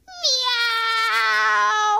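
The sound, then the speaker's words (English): A single long, drawn-out cat meow, loud, holding a steady whining pitch for nearly two seconds before trailing off, with no other sounds around it. “And the cat jumped under the bed.”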